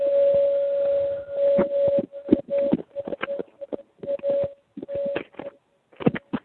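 A singing bowl rings with a steady, sustained mid-pitched tone that hums on throughout, while sharp clicks and knocking noises break in intermittently over it.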